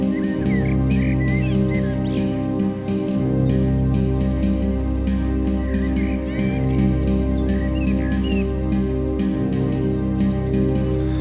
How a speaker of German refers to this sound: Vom Wald sind nun auch einige Vögel zu hören.